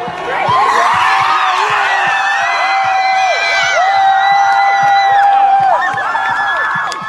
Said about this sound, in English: These are Yale students cheering the American flag being torn down. Play the audio again and understand the cheering is when the American flag hits the ground.